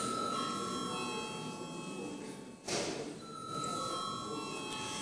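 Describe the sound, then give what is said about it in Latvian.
A parliament voting bell, called for before a vote on electing deputy Juris Viļums to the Education, Culture and Science Committee, rings continuously as a steady electric tone over a low hum, with a brief break and a soft thump near the middle before the ringing resumes. “Lūdzu zvanu.”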